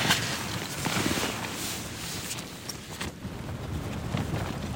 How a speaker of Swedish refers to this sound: Nu kommer det blåst också. Blåser som bara där runt om regnskurarna.